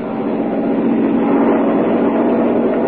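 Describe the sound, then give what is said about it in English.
A loud, steady engine drone of an airplane flying overhead, a dense low rumble with a broad roar that holds constant for the whole stretch, with no voices. “Perhaps it is on that very plane we are hearing now.”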